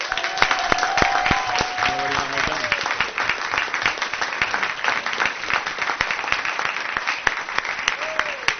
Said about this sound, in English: And this night is especially honoring because we have two of our elementary schools who have been recognized as California Distinguished School. Please give a round of applause to Merced and Vine.